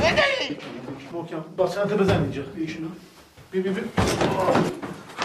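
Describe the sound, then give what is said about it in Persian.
Heavy, booming thuds of a door being struck hard to break it open, two or three blows with gaps between them, while several people talk and shout in Persian over the banging, urging each other to break the door and hit it again. “بشکنید دیگه، در رو بشکنید دیگه.”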